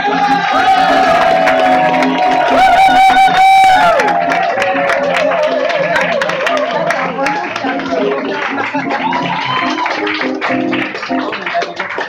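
Loud, sustained audience applause with dense clapping, mixed with cheering, high whoops and shouts from the crowd at a live show as the evening's first male performer is introduced, continuing steadily for about twelve seconds.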